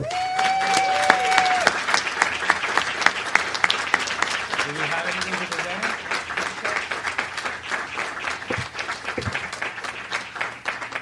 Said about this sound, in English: I'd like for you to give a warm FCB applause and welcome to the family